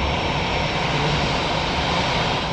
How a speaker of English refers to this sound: We're watching a Delta jet taxi to its gate, but what's unusual is that this jet is passing beneath an enormous pedestrian bridge.